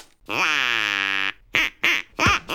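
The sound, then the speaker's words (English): A duck quacks loudly: one long, drawn-out nasal quack followed by three short, sharp quacks in quick succession, with no talking. “And just to prove we're serious about this, we've got a duck. And we're not afraid to use it.”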